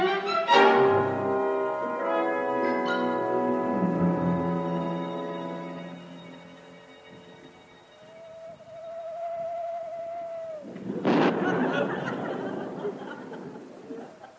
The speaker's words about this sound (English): Hear that? Owl hoot and a thunderstorm. Two very good omens.